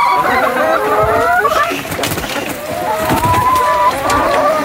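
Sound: laying hens clucking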